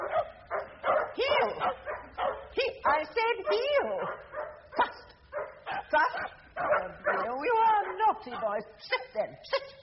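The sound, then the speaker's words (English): A Labrador dog barks and yips nonstop, loud, excited bursts tumbling one after another with high-pitched whining yelps mixed in, no pause for the full stretch. “It's that Labrador that you're supposed to be looking after. It's making so much noise, my dog can't hear my voice.”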